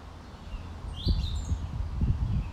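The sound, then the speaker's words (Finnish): Several birds chirp and twitter, their faint calls drifting over a steady low outdoor rumble, with one brighter trill standing out briefly. “Pystytkö erottamaan, kuinka monta eri lintulajia tässä laulaa?”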